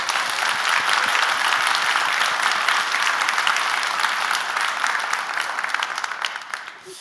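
audience applauding

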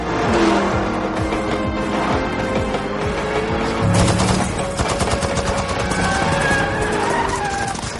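video game gunfire

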